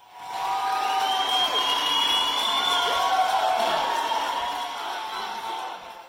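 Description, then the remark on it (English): A large crowd of Ryerson students at a general assembly in the Student Learning Center cheers loudly and steadily after voting yes to a student strike, with high whoops and shouts rising over a sustained roar of voices that fades slightly toward the end. “Those in attendance at the Student Learning Center overwhelmingly voted yes, which led to a massive cheer.”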